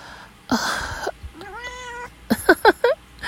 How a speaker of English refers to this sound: Ignore that kitty. Meowing.